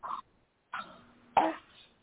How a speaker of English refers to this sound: Now you take a deep breath and you cough from your gut. Take a deep breath and cough.